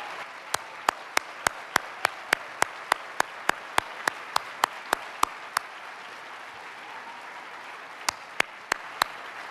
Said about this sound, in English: And let me ask all the members of the Democratic Senate to stand up so we can give you a round of applause. Stand up.